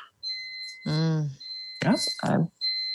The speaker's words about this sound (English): Beeping thing. Okay. You're so hot, you're setting off the fire alarm. I know. I was like, what is happening in this apartment?